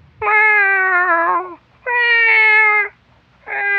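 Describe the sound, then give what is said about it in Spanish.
A frightened cat, its tail stepped on, meows three times in long, drawn-out, wavering wails, loud, with short pauses between them; the last cry is cut off at the end. “El gato se asustó tanto que se quedó sin voz.”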